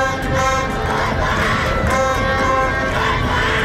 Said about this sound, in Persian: حضور پرشور هواداران زن تیم گلگهر سیرجان و 100 دقیقه تشویق مردان در نخستین رقابت.